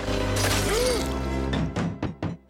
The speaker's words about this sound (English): A gun pokes through the door and shoots, just missing Homer.